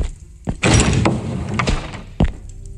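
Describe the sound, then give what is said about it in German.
A heavy door to a throne room thunks and grinds open, with a sharp knock near the start, a sustained scraping rumble, and another solid thud near the end, fairly loud. “Die Türe zum Thronsaal.”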